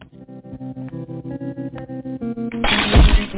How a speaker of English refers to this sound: The golden vase shattered as Sleepy splattered against the cold stone slabs once more.